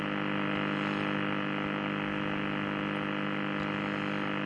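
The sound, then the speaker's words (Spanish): A steady, continuous buzz over a bed of radio static from the signal of the shortwave station UVB76, holding at an even level throughout with no talking. “Es un zumbido continuo.”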